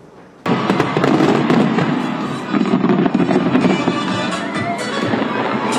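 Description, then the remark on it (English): A big New Year 2024 fireworks display near the Sydney Harbour Bridge in Australia erupts after a brief quiet start, with dense, continuous crackling and booming bursts overlapping into a loud, sustained roar with a crowd-like wash underneath. “The firework display happened near the Sydney Harbour Bridge.”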